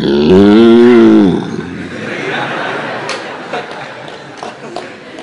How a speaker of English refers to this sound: And their tails were raised straight up. Their udders were so full with preem, with milk. It was just pouring out of them. And they were mooing very loudly.